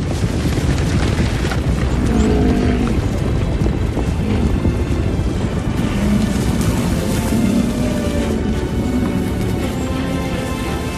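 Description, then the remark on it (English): A herd's hooves thunder along among trees in a dense, continuous rumble, loud and steady for the whole stretch, the individual hoofbeats blurring into one heavy roar with no talking. “Somewhere ahead in the trees, they can hear the thunder of hooves.”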